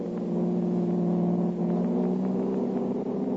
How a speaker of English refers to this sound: Jumping into his own car, the Blue Beetle gave chase until out on the river road.